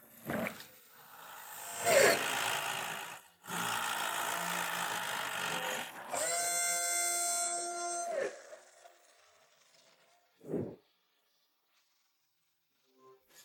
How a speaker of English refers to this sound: The cement mixer pours cement into the holes to hold the streetlights firmly in place.